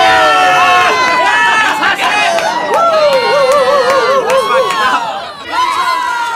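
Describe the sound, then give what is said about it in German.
A dense crowd of hundreds of spectators, packed behind the barrier in the sand at a beach volleyball world championship, roars and shouts continuously to cheer on their favorites, many voices overlapping in loud, excited cheering with high-pitched yells rising and falling, briefly dipping near the end before surging again. “Hunderte halbnackter Körper saßen dicht gedrängt hinter der Absperrung im Sand und brüllten sich die Seele aus dem Leib, um ihre Favoriten anzufeuern.”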